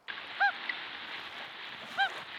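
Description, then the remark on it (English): Two short, soft loon hoots, each a brief mid-pitched tonal note, separated by over a second, heard over a steady hiss of background noise, played back as a recording on a phone. “And this one is the hoot sound.”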